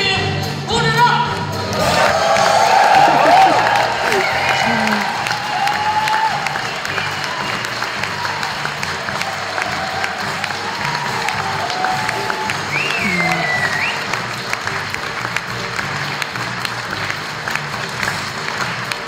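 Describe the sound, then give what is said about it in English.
A large crowd at the end of a concert cheers and applauds steadily after the performer says "fuck Putin", a dense wash of clapping with voices shouting and whooping over it, loud and sustained without a break. “Yeah, cheering people, yeah.”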